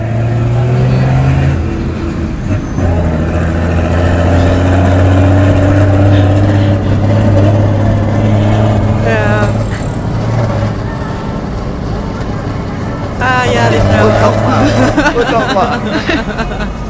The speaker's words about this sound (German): Also hier habe ich einen Bus, der Gas gibt. Und zwar in Peru von außen aufgenommen mal, aber das finde ich auch, es klingt ziemlich gut.